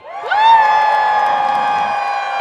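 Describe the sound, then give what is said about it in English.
An audience at an Earth Day and March for Science event in Madison cheers loudly on cue for the March for Climate, a rising, high-pitched collective "woo" that swells within half a second and then holds steadily for about two seconds. “So on the count of three, let's give them a cheer.”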